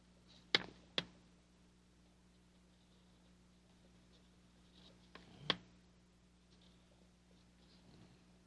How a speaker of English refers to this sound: I'm going to write pencil, the word pencil, on this paper.